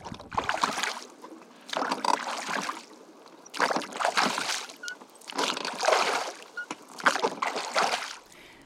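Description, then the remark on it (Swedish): Water sloshes and slaps against moored boats at the temporary Djurgården ferry terminal in Stockholm, in five regular, rushing surges about a second apart, fairly loud, with no voices. “Den här färjeterminalen som finns här just nu för Djurgårdsfärjorna, den är tillfällig.”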